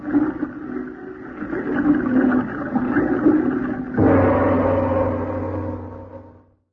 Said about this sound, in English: And to make the job complete, I'll just open those spigots and flood this room.